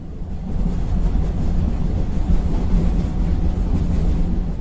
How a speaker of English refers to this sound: We do, though, and make it back into the Czech Republic, arriving at Trzemeszna Veslesku for a ride on a narrow-gauge railway to Osoblaha.